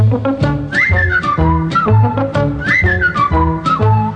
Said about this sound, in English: Whistle along, join in the song. WABC. All the while, 770 on your dial.